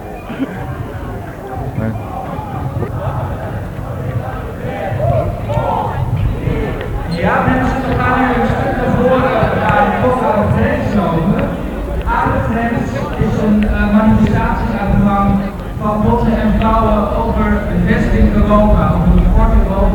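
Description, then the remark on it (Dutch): Horses ridden by two Dutch police officers clip-clop steadily on a hard street surface as they move away from the head of a demonstration, amid a noisy outdoor crowd with voices chattering and murmuring around them throughout. “Twee Nederlandse agenten te paard die verwijderden zich voor de kop van de demonstratie vandaan.”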